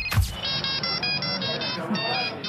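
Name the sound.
mobile phone ringtone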